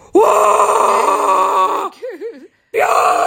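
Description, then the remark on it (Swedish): A person bellows a long, loud, strained yell of "Björn!" (bear) to scare off a bear, then a shorter wavering cry that trails off into a brief pause before another loud shout bursts out. “Då slog det med att man ska göra sig stor och skrika.”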